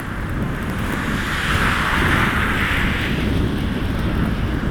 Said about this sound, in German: Ah, Gott. Wind ist weiter. Extrem unangenehm. Ich habe das Gefühl, er kommt immer von vorne. Ah, und es ist unangenehmer. Hagel, Regen, Schneemix.